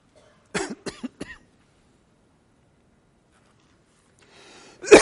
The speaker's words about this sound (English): Excuse me this morning. I got the cough back. I don't know why.